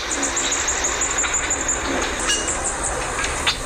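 A bee hummingbird (Melosuga Helene), the smallest bird in the world, gives a steady series of rapid, very high-pitched squeaky chirps, thin and insect-like, running continuously over a bed of constant hissing background noise.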